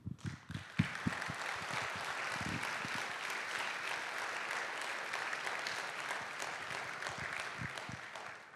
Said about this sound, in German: Aufgrund der Anerkennung auch für die ganze Arbeit, die getätigt worden ist, und den ganzen Proben, habt ihr euch einen Applaus verdient.